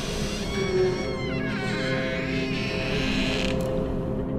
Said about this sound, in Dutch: vol verwachting klopt de meest gefortuneerde vorst van het Westen op die rammelige deur. De deur kraakt open.